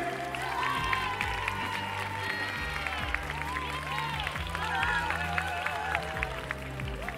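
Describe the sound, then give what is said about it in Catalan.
A crowd applauds steadily throughout, dense clapping mixed with scattered cheers and raised voices, holding an even, fairly loud level over a low droning rumble underneath. “Aplaudiments!”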